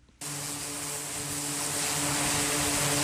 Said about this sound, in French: Au large des côtes yémanites, les aéronefs font leurs allers-retours sur les porte-avions. Des vols d'exercice.